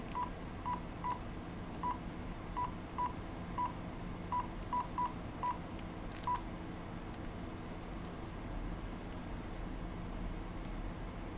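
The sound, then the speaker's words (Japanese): A rapid series of about a dozen short landline telephone keypad tones, dialing a call to an IS15SH smartphone, evenly beeping over a steady low background hum, then silence with only the hum continuing. No one speaks. “この状態でスマートフォンに固定電話から電話をかけてみます。”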